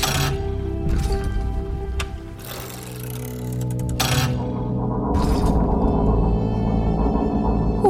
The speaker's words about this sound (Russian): Словно время протискивается через заржавевший механизм часов. Или просто кто-то тащит по доскам металлический кофейник на веревочке.